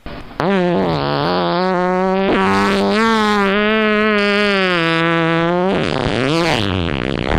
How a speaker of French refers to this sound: Ah bah, il est quand même bien sonore, hein. Oui, c'est pas mal. Elle peut péter comme ça sans respirer.